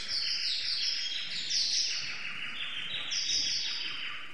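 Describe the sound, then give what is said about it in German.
Birds chirp continuously in a dense, overlapping chorus of high, rapid twittering calls, fairly loud and steady throughout with no voices present. “Die Vögel kamen.”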